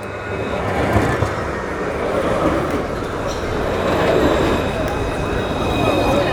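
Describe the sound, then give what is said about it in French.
A tram rumbles past, a steady, dense rolling roar of wheels on rails with faint high metallic whine, holding a fairly even loudness for several seconds. “avec donc commerce, avec peut-être zone artisanale, le tout traversé par un tramway.”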